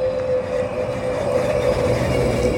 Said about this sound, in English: Daniel spotted this electric trash truck in Orange County, California.